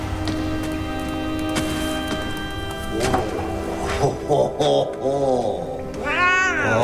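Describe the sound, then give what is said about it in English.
Gargamel's cat meows a few times near the end, with drawn-out, bending cries over a steady, sustained musical drone, as it enters a castle tower cellar with Gargamel from a winding stone stairway. “Gargamel and his cat enter from a winding stone stairway.”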